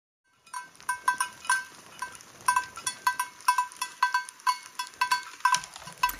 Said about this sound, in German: Ein Tier war nämlich darunter, ihr habt es gehört. Das hatte eine Glocke am Hals. Vermutlich so ein bisschen wahrscheinlich das Herdenoberhaupt oder so. Es war auf jeden Fall ein Männchen. Es hatte ein Geweih.